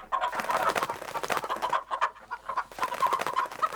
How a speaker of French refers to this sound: La poule, très énervée, appelle toute sa bande. Une dizaine de poules arrive. Elle voit l'œuf cassé sur le sol du poulailler et se met en colère.